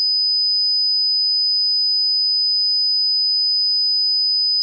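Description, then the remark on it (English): A steady, high-pitched 5,000 hertz pure test tone played from a CD holds constant at one pitch for nearly five seconds, clean and unwavering, with nothing else audible around it. “The next tone we are going to hear is 5,000 hertz.”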